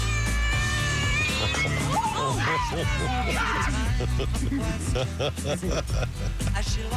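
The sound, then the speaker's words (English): Several cats meow and growl loudly, their wavering, drawn-out cries overlapping one after another over a steady low background hum. “Cat noises. A lot of cat growls?”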